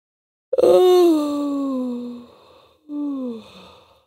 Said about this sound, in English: She let out a long, long yawn.